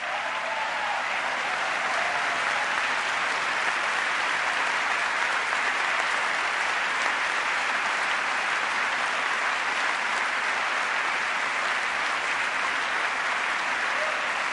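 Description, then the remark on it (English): Sustained applause from a large audience during dramatic pauses in the Israeli Prime Minister's speech, a dense, steady wash of clapping that holds at an even, fairly loud level for the whole stretch with no voices rising above it. “Dramatic pauses for applause.”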